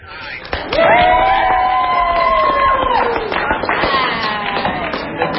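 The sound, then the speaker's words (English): A crowd of environmental lobbyists outside the Senate chamber cheers and celebrates the announcement that the GOP leadership came up 3 votes short on a vote to break a filibuster, with loud sustained whoops and shouts over a steady roar of many voices, plus scattered claps and yells. “They celebrated when it was announced that the GOP leadership came up 3 votes short.”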